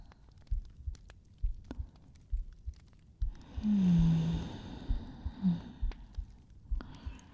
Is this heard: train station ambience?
no